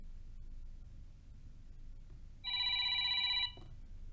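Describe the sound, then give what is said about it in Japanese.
A single bright electronic telephone ring lasts about a second, loud, with steady high tones, before it stops abruptly over a faint low background hum; it starts a phone call between a woman and a man. “女の人と男の人が電話で話しています。”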